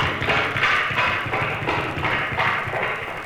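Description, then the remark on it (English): A voice mimics galloping horse hooves with rhythmic mouth clicks and breathy clops, repeating in a steady beat, fairly loud with no words. “I do vocal sound effects, you know, like horses galloping.”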